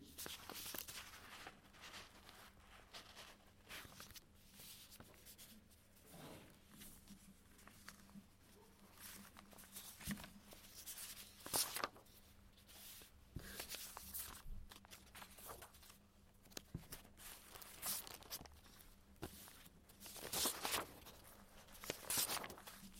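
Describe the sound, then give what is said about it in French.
Papers being shuffled and rummaged through while searching for a particular sheet, with irregular bursts of rustling and crinkling over a quiet background hum, and no one speaking. “Alors, je cherche le papier où je l'avais un peu plus détaillé.”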